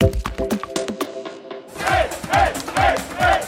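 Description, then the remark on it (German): A crowd lining the route of a cycling tour in Bavaria cheers and shouts in rhythmic bursts, rising in waves roughly twice a second, with a brief clatter of tones and knocks just before the cheering starts. “so klang der Jubel entlang der Strecke auf der BR-Radeltour im vergangenen Jahr”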